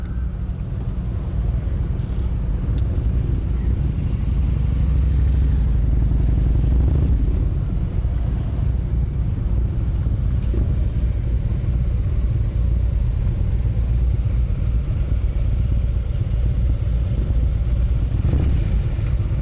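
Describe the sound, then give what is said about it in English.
Three Harley-Davidson motorcycle engines idle in a deep, steady rumble, loud and continuous for the whole stretch, with slight swells in throttle and no one speaking; the motorcycles, put together by Harley-Davidson in Baltimore, are a gift to the Baltimore City Police. “The Baltimore Ravens have purchased 3 Harley-Davidson motorcycles for the Baltimore City Police, put together by Harley-Davidson here in Baltimore.”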